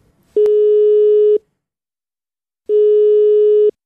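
A telephone ringing tone of a call placed to Lauterbach sounds twice, each a steady low electronic tone lasting about a second, with a long silent gap between them and no voices.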